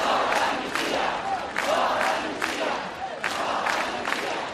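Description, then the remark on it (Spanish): Hundreds of thousands of Spaniards in Catalonia, Spain, chant loudly and continuously at a street protest against an amnesty, shouting 'no en mi nombre'. Voices rise in rhythmic surges about every second, with shouts blending into a dense, roaring wall of sound. “Cientos de miles de españoles de Cataluña han vuelto hoy a salir a la calle para gritar no en mi nombre.”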